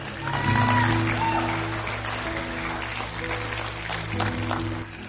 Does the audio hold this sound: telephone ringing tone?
no